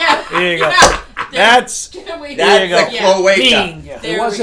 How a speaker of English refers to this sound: I think it's broken because it wasn't. Well, you're slamming it on the table like that. Well, I'm pissed off at it.